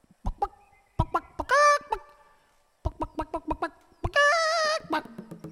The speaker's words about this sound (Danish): Ved I egentlig, hvordan en høne siger? Ja, den sagde bok bok. Altså, som i bok bok.